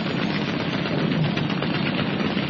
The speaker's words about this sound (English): Roberts swung hard on the wheel, and the small boat zipped into the gap, her machine guns blazing out defiance from both sides.